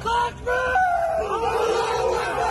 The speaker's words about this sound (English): Footage released by Chechen fighters helping Russia showed them raising a Soviet flag in the city and shouting in celebration.